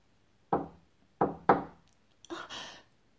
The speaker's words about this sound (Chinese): 办公室突然响起了一阵敲门声